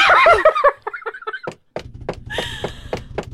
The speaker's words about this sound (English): Pick up the door, hold it up.